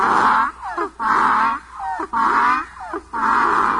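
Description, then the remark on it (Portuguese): A donkey at a gate, ears laid back and teeth showing, brays in a loud, rasping cycle, harsh drawn-out honks alternating with shorter wheezing in-breaths, repeating three times in a steady seesaw rhythm with no talking. “Eu vinha vindo para casa descansar, o jegue estava no portão, quis me pegar. Quando me viu, foi murchando as orelhas, mostrando o dente e começou a relinchar.”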